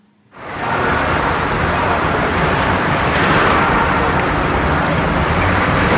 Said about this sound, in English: Okay, this is just the traffic noise. This was probably easy.